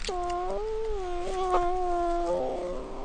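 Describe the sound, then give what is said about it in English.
An orphaned brown bear cub of about 5 pounds, sitting on a man's chest in a tank in Sitka, Alaska, lets out a long, whiny bawling cry while feeding from a baby bottle of goat's milk on a sunny afternoon, one sustained wavering call lasting a few seconds, with no talking. “feeding a new cub sitting on his chest with a baby bottle full of goat's milk.”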